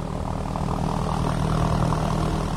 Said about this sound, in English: The plane was a lot louder than I expected, and very bumpy. Once up in the air at a cruising speed of 85 miles per hour, you can start to feel a warm breeze.